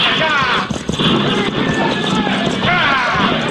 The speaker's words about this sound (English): Now, Pancho, bring those horses to a halt.